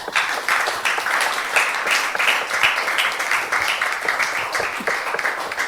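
A steady round of applause from a crowd, many hands clapping in a dense, continuous patter that holds at an even loudness for several seconds without voices breaking through.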